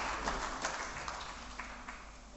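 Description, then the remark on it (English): An audience applauds a man again in a steady, dense patter of many hands clapping, fairly soft, with a few sharper claps standing out. No one speaks. “Why don't give him a round of applause again?”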